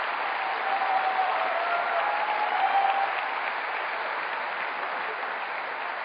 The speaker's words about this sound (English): Well, that concludes round one this evening, and let's give all of the candidates a round of applause.